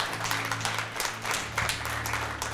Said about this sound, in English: Can we clap for the hands that went up this morning?